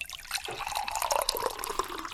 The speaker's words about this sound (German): Ja, vor allen Dingen muss ich erstmal hier einschenken.